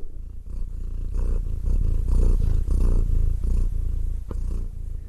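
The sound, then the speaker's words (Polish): A female domestic cat, settled among paper notes, purrs steadily, a low rumbling vibration pulsing in a continuous rhythm with soft breathy cycles, fairly loud and with no talking. “słuchajcie, moja kotka, muszę to powiedzieć, tak bardzo, bardzo się zainteresowała totemem, że ułożyła się tutaj pomiędzy moimi wszystkimi notatkami i po prostu tak bardzo się w nich rozgościła, tak cudownie mruczy, że musicie to usłyszeć.”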